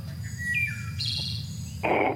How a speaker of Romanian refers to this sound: Te-ai săturat să te trezească în fiecare zi aceleași păsărele care îți cântă la geam? Auzi mereu aceleași rândunele plictisite?